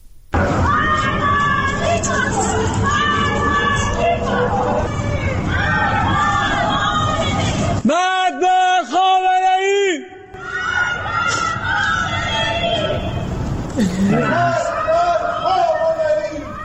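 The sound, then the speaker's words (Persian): Residents of the Narmak district of Tehran shout slogans against the leader of the Islamic Republic from their homes on a Tuesday evening, in loud, rhythmic chanting, many voices overlapping in repeated phrases; a single sustained wavering voice cuts through briefly midway before the collective shouting resumes. “همچنین شامگاه سه‌شنبه نیز شهروندانی در منطقه نارمک تهران اقدام به سر دادن شعارهایی علیه رهبر جمهوری اسلامی از خانه‌های خود شدند.”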